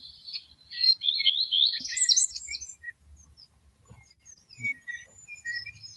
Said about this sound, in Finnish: Sittenhän kuuluu, mustarastas kuuluu tuolla taustalla ja peippokin siellä taitaa olla ja onko metsäkirvinenkin.